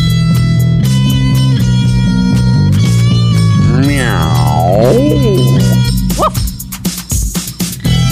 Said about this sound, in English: I think I hear a real cat in the background meowing.